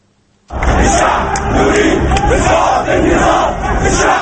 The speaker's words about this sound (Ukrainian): Народ хоче повалити режим, вигукував натовп у Єгипті.